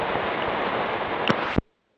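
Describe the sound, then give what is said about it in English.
Heavy rain drums steadily on a car roof, a dense, loud hiss with a brief thump near the end before the sound cuts off abruptly into silence. “The rain was coming down so hard then I thought I'd better stop and check and see if you were able to hear me.”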